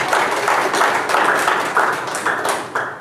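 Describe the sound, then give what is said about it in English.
An audience applauds for the Lord during a sermon, with steady, dense clapping from many hands and a loose rhythmic pulse running through it for about three seconds. No one speaks over it. “Give the Lord a hand of applause in his name.”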